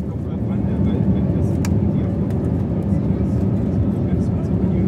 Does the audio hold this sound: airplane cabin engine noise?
yes